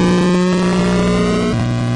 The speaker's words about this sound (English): That's apparently the sound a car makes when it drives. My car doesn't sound like that. My car doesn't sound that digital. Okay, they did really good with what they had, man.